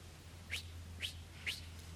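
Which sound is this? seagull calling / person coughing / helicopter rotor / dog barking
seagull calling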